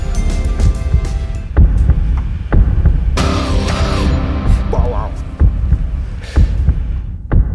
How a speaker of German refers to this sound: und ja, wir würde ich sagen, wir machen diese Version, wo am Anfang diese Herzschläge hörbar sind.